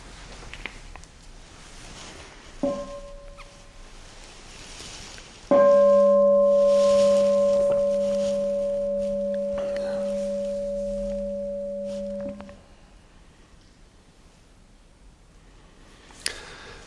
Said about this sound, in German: Dann hören wir nochmal kurz eine Glocke.